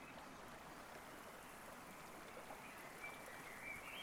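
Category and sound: nature, gently flowing water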